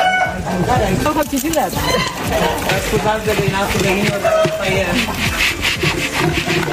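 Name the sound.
chickens clucking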